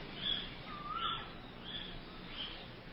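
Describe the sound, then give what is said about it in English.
Faint birdsong: a few thin, high chirps scattered through a soft background hiss, with one brief rising call in the middle. No voices. “The birds go on singing and you hear.”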